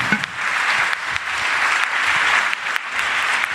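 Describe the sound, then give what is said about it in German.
Sustained applause from an audience for a winner coming up onto the stage, a dense, steady crackle of many hands clapping at an even loudness for several seconds, with no voices standing out. “Und du wirst natürlich, wenn du hier hochkommst, auch einen wunderbaren Applaus bekommen für unseren Gewinner.”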